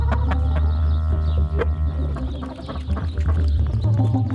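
Hens cluck in a busy, uneven stream in a henhouse while a rooster calls out with a loud cock-a-doodle-doo, all fairly loud, with a steady low hum running underneath and no talking.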